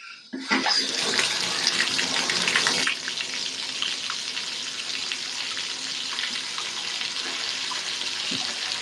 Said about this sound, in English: Here we go. The bathtub is running water.